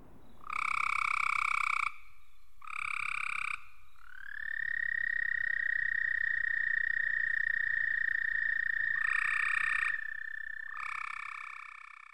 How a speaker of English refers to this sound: Let's start with this recording of an American toad.